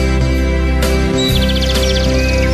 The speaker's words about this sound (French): ça commence avec des petits pit pit pit d'oiseaux.